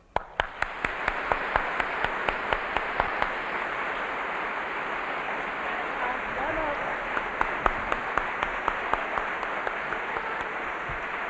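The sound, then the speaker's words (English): A crowd of kids applauds a band and performers steadily for about eleven seconds, a dense wash of many hands clapping with a few sharper individual claps popping out along the way. “And I wonder if you kids would help me by applauding this band and these performers and show them my gratitude.”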